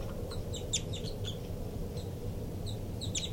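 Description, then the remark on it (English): Begging calls of a baby bird, 5-9: rapid bursts of thin, high-pitched chirps repeating in irregular clusters over a steady low background hum, with no talking. “Begging by the baby there.”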